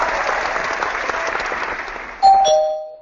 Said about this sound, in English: Ta-da. Applause. You got the applause and stuff.